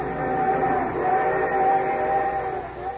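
train whistle sound effect

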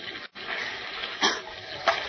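rough sea waves crashing

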